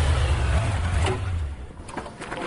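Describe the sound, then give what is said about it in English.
A motorcycle engine rumbles steadily as it rides up, its low growl strongest at first and then easing slightly, with faint higher clatter over the top. “Here's him riding up on his motorcycle.”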